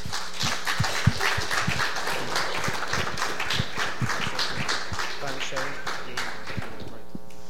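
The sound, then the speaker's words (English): A crowd gives a round of applause for people of a ministry, with many hands clapping in a dense, steady patter at an even loudness for several seconds before thinning out at the very end, where a faint sustained tone appears. “So please, if you join me in a round of applause for these people now.”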